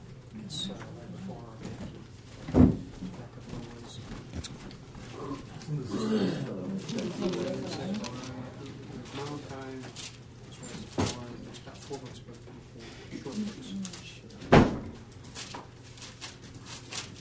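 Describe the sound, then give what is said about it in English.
A door slams shut with a sharp, loud bang, followed some seconds later by a second similar slam, while faint, muffled voices and room noise carry on in the background. “I heard the door slam.”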